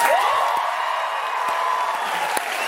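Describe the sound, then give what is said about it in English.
A large audience applauds and cheers steadily, a dense, even wash of clapping with a rising whoop at the start and occasional sharper claps, holding at a fairly loud level throughout. “I haven't gotten all dressed up and had hundreds of people clap for me in days.”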